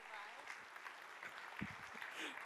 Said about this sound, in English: All right. That's good. Let's give everybody a good applause this morning. Thank you.